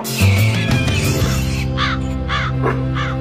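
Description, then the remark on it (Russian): A crow caws three or four times in harsh, rasping bursts at a steady pace, fairly loud, over a sustained musical background. “Было установлено, что вороны могли готовить орудия двух типов – своеобразные грабли из грубых листьев пандануса и крючки-лопаки, сделанные из хвоинок.”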